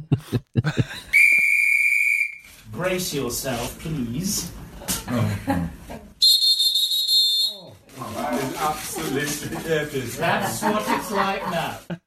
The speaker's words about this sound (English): Quick, get the whistle from the Titanic.